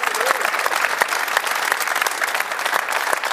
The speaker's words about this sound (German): Aber das wird nicht so sehr und ja, gerne Applaus. Immer für so, also bitte.